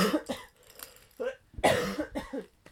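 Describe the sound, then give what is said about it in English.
A mother coughs several times, harsh bursts in two clusters separated by a short pause, with some voiced, throaty sounds between them. “Is that funny that mummy's got a cough?”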